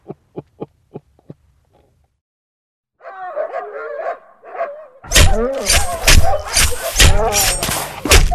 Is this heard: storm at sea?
no